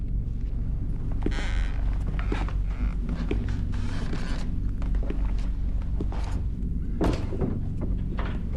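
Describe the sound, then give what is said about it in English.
Slow footsteps of a man walking through a dark room toward the bathroom cross a creaking floor, with irregular groans and soft thuds of the boards over a steady low hum. There is no talking. “He walks towards the bathroom.”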